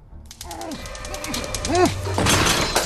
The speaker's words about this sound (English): Tony collapses in a sweaty heap, knocking over a lamp.